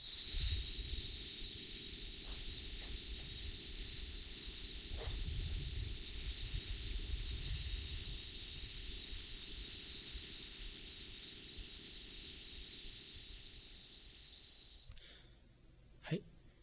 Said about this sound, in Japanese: じゃあもう一回いきますよ。吸って、吐きます。